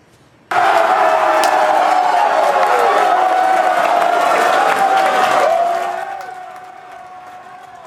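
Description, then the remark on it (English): NC State fans gathered at Players Retreat to watch the game erupt into loud, sustained cheering, shouting and whooping together, celebrating the Wolfpack's March Madness win against Texas Tech. The roar holds steady for several seconds before gradually fading down to a lower roar. “You can just hear the excitement as fans gathered yesterday at Players Retreat to watch the game.”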